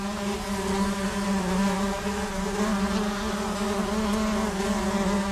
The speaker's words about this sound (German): wie es auf einen blinden Menschen wirkt, wenn plötzlich eine Wespe dicht an seinem Ohr vorbeisummt